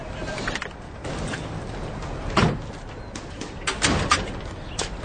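A house door opens as a man holding a pillow comes out of the house, with a few short knocks and rattles partway through, set against a steady outdoor background where birds coo faintly. No one speaks.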